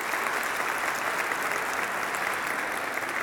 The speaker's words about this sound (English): Let's just give them a round of applause.